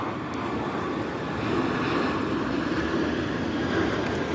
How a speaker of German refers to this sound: Jetzt warte, bis der Flieger vorbei ist.